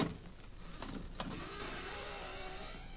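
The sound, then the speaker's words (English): A skeleton key scraping and turning in a door lock: a couple of sharp metallic clicks early on, then a steady grinding, rattling mechanical sound that holds at moderate loudness, with no voices. “Now, how about skeleton key?”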